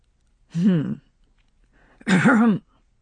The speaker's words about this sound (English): said Gerald, clearing his throat in embarrassment